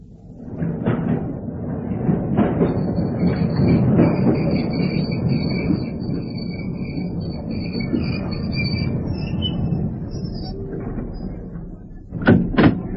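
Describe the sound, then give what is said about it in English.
A loud underground train rumbles at a station with a thin high-pitched squeal running above it, then doors slide and clunk sharply near the end. “What time's the next train to Piccadilly Circus?”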